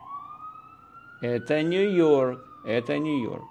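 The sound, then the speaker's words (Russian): An ambulance siren in a New York city street drones on a slowly shifting pitch throughout, while a person talks loudly over it. “Наверное, скорая помощь. Слышите?”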